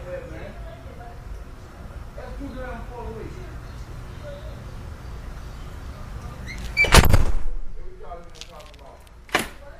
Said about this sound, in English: I promised somebody a good door slam, so here's the first preliminary door slam. Right about now.